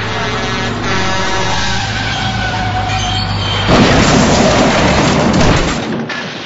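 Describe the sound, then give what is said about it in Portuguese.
A heavy truck rumbles and whines with a metallic grinding drone, then a larger truck slams into its middle and a sudden loud roaring burst erupts as it explodes, breaking its grate, sustaining for a couple of seconds before fading. “O caminhão que vocês estão, ele explode no meio, quebrando a grade que vocês estavam, porque outro caminhão maior bateu bem no meio dele.”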